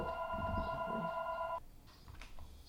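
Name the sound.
telephone ringing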